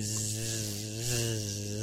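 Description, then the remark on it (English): Flies buzzing around a corpse give a steady, loud drone full of harsh overtones, holding constant for about two seconds with a slight waver in pitch midway, with no voices. “Those are flies buzzing around his corpse.”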